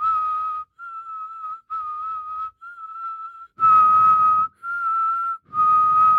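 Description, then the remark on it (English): A person whistles a series of short sustained notes as a warm-up, alternating between two close pitches with brief pauses; a couple of louder phrases carry some breathy low noise. No talking. “Let's do some whistling warm-ups first.”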